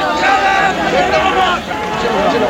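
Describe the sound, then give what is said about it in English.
A large crowd surges through burst-open gates toward the Supreme Court, a dense, loud roar of many overlapping voices shouting and clamoring continuously, with no pause, as people run ahead together while police stand by. “The gates have burst open and people are now running towards the Supreme Court.”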